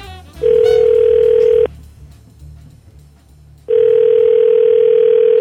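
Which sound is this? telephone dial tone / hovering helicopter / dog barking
telephone dial tone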